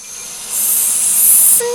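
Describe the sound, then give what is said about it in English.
A snake on a green tree branch gives a sharp, airy hiss that swells up and holds steady for about a second, loud, then cuts off abruptly into a brief faint tone. “Is it me, or is this branch slithering?”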